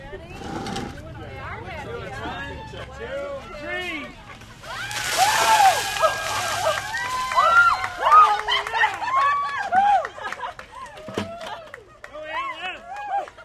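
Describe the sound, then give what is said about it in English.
A sudden heavy splash of slushy ice water dumped from buckets during an Ice Bucket Challenge on a sidewalk outside an office in downtown Petersburg, lasting a couple of seconds, surrounded by a crowd of people shouting, shrieking and laughing. “But first, they have to douse themselves. They line up on the sidewalk outside their office. Buckets filled to the brim with a slushy mixture of ice and water.”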